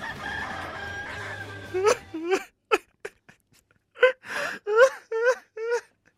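A person screams and wails in a string of short, strained, high-pitched cries, about nine loud bursts in two groups separated by a brief pause, after a faint tonal background fades out.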